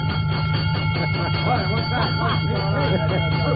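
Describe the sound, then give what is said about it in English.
A fire engine bell clangs rapidly and steadily over a loud, droning low hum as the fire engine pulls up in front of a firehouse, with muffled voices calling out partway through. “Oh, ring that bell”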